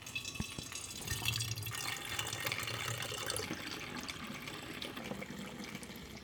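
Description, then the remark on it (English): Kombucha that has been sitting for a week pours steadily into a bottle, a continuous splashing, gurgling stream with a few faint drips and clinks, fairly quiet and with no one talking. “I'm going to add the kombucha that's been sitting for a week to the vessels.”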